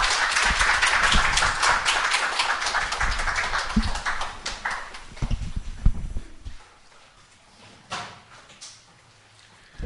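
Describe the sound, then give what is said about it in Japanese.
An audience at a church service applauds with a dense burst of overlapping claps that stays loud for several seconds, then abruptly fades to quiet with only a few scattered claps trailing off. “Everyone give a clap.”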